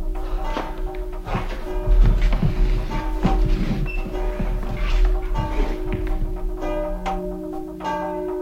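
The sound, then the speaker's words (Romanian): A wooden semantron is struck in a quick, uneven rhythm of hollow knocks, with church bells ringing for a death steadily behind it, loud throughout. “Toacă de o trenie.”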